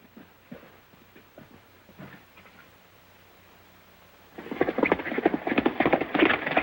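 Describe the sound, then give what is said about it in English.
Scattered hoof clops sound at first, then a louder, dense burst of rapid hoofbeats and rustling noise takes over near the end as a man jumps on his horse in a ranch yard and rides away. No one speaks. “Without looking at her, he jumps on his horse and rides away.”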